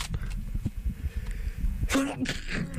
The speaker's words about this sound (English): I feel like I'm gonna sneeze so hard